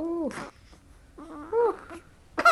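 A two-week-old newborn girl, asleep in her mother's arms, wakes and fusses in short, squeaky whimpers and brief cries, with breathy pauses between bursts and a sharper cry at the end.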